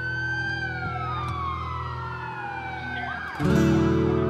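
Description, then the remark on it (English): An ambulance siren wails with long, gliding pitch sweeps over a low engine rumble, loud, then switches to a harsher, louder pattern near the end; the ambulance is coming after a 911 call. “I hear the ambulance is coming.”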